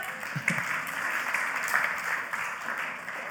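A room full of people applauding, a steady dense patter of many hands clapping at once, fairly loud and sustained for a few seconds with no one speaking over it.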